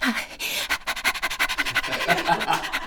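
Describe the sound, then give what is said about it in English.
A happy dog going on a walk pants quickly and steadily, a fast rhythmic run of breathy huffs lasting a few seconds with no talking over it. “A happy dog. Happy so, dog. No, like happy dog. Going on a walk, was it?”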